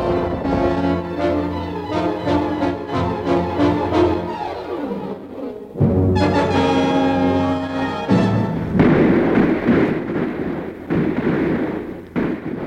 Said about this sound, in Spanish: no podemos avanzar. Los disparos de nuestros enemigos son muy certeros y concentrados.